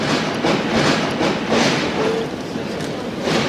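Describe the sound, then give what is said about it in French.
A dense, steady roar of a packed crowd in the underground passage of the Gare Saint-Lazare train station, overlapping voices and footsteps blending into a loud, continuous wash with faint brief tones rising above it. “Alors là, on est dans le souterrain de la gare. Il y a une foule très très compacte et 18h34, c'est l'heure de pointe.”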